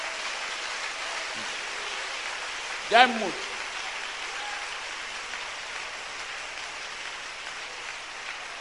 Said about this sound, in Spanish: Aplauda la presencia de nuestro Dios.